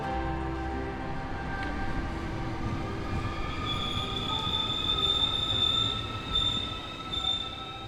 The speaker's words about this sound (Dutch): Nou, daar zit ik dan. Voor de komende 2 uur in mijn eentje in de trein. Tussen al deze wildvreemde mensen.